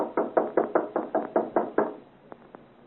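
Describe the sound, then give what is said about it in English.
A rapid series of about nine loud, heavy knocks on a door to wake a gentleman up, evenly spaced, followed by two fainter, lighter taps after a short pause. “Knock loudly. Wake the gentleman up.”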